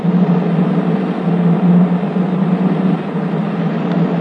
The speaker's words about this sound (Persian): یه ماشین داره سایه به سایه ما میاد.